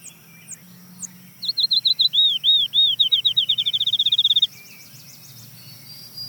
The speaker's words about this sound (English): Hear some birds in the distant background, but the next bird to join is a field sparrow. That trill is the field sparrow? That's the field sparrow.